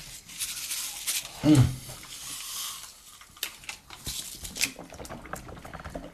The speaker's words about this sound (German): Man nimmt erst das Brausepulver und dann kippt man einen klaren Kurzen hinterher und dann schüttelt man mit dem Brausepulver das Köpfchen und dann schluckt man das runter.